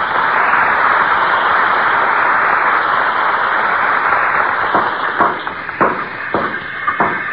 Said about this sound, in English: That's what the sound of carpenters at work is to a guy who loves to tinker and putter.